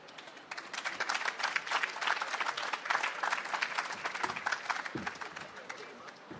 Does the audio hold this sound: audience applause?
yes